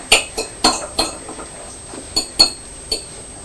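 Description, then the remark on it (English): Metal and crockery clink together in a quick, irregular series of about seven bright, ringing taps as a pet food tin is scraped and tapped against a dish to feed a cat, with no talking. “Don't get the tin out because she's standing here straight away, isn't she?”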